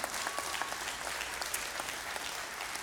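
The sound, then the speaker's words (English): An audience applauds during a church service, a steady wash of many hands clapping at once, dense and even throughout with small bursts of sharper claps, and no voices heard over it. “You can clap.”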